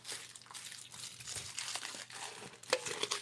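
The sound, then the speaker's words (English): Crinkly plastic packaging being unwrapped, a steady run of dense crackling and rustling with a few sharper snaps near the end, fairly quiet and with no voices. “Unwrapping.”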